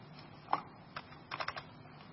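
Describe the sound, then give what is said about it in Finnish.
Scattered clicks of keys on an unresponsive computer keyboard, a single tap followed by a quick irregular burst of presses, fairly quiet against a faint background hum, with no talking. “Näppäimistö ei tottele.”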